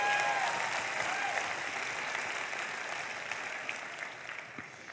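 An audience claps in sustained, dense applause that gradually fades, with a few faint whistles and cheers mixed in near the start and no talking.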